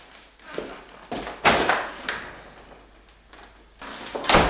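A cup falls to the floor, giving a series of hard knocks and clatters spread over a few seconds, the loudest bangs near the middle and end.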